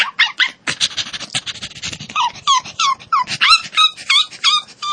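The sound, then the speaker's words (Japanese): A human voice imitates a tiny, cute puppy with a quick series of high, thin yips and whimpers, fairly loud, bursting in rapid irregular rhythm for several seconds. “ちっちゃい子犬だよ、もう。”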